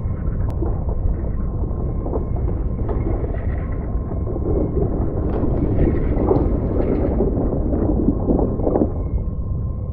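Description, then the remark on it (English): Rocks around a sea cave opening collapse and cave in, a loud, sustained deep rumble lasting the whole stretch, with scattered sharp cracks and clatters of tumbling stone breaking through the low roar. No one speaks. “The opening caved in. We're trapped.”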